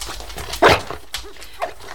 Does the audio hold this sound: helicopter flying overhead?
no